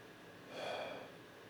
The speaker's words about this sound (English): Little sneeze and cough.